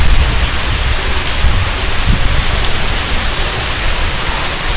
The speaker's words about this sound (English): There's a wind while it rains.